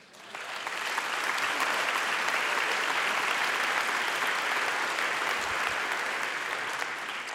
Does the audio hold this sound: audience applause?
yes